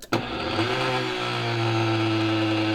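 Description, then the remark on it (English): A powerful blender blending ají panca peppers kicks on with a sharp start and then runs steadily at a loud, high-pitched whine, a continuous mechanical drone with no talking. “So place your peppers in the blender.”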